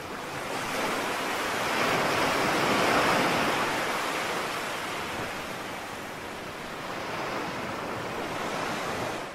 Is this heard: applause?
no